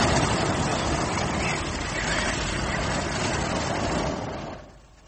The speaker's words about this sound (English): Absolutely silent, gliding across the Masai Mara. No engine to be heard, just those gas burners from time to time. That's how you control the altitude, is it? That's right.